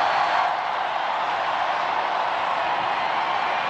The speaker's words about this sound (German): Und natürlich auch der Jubel der Menschenmenge, der immer lauter wird.